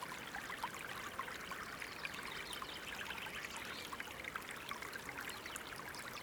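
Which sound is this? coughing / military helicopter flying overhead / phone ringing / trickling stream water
trickling stream water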